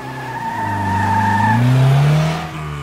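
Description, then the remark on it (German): Tires screech loudly in a sustained squeal while a car engine revs up and rises in pitch, the car speeding off before the sound trails away near the end. “Oder Reifenspuren? Falls jemand mit dem Auto geflohen ist.”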